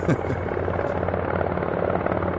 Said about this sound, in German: Hinter dem Gebäude hören wir das Röhren von Hubschrauberrotoren. Dann wird die Maschine sichtbar, dreht ab Richtung Tiergarten.